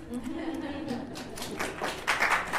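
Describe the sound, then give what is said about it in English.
A church audience claps their hands for a man introduced during the service, in an uneven, scattered patter that swells toward the end, with murmuring voices underneath. “If I was in Ramut, I would say, clap hands for him.”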